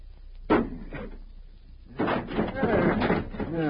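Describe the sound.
An axe chops into a wooden door with two sharp, heavy thuds about half a second apart, followed by people talking loudly.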